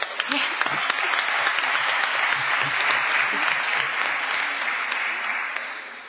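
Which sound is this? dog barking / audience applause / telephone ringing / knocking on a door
audience applause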